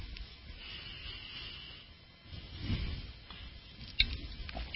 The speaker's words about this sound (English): Drinking my water. Hope you're drinking yours.